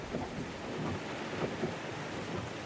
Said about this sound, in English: It was slow going in the driving rain, the windshield wipers working at full speed.